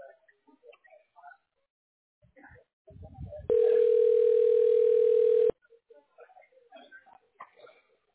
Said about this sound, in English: Yeah, it's ringing.